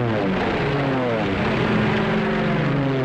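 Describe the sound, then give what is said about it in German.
A loud, continuous drone of propeller aircraft engines, several overlapping throbbing tones that waver slightly in pitch, like a formation of 521 English bombers approaching the city of Nuremberg. “Die Chance, in Nürnberg zu überleben, als sich 521 englische Flugzeuge der Stadt nähern, ist gering.”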